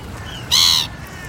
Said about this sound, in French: Là, les mouettes sont forment ce qu'on appelle des reposoirs. Il n'y a pas beaucoup d'endroits à Paris où les pelouses sont absolument interdites au public.